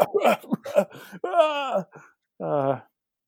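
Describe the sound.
A voice fakes exaggerated coughing, mimicking a man coughing at press conferences: a quick run of harsh hacking bursts, then two drawn-out, strained groaning wheezes separated by a short pause.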